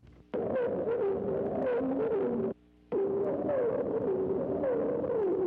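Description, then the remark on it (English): Two sustained birdsong phrases separated by a short pause, each a loud run of warbled, sliding whistled notes that rise and fall in pitch, with no voices; the bird varies a song theme rendered as "Shut the Door," which later becomes "Please Shut the Door." “One such theme is "Shut the Door," which later becomes "Please Shut the Door."”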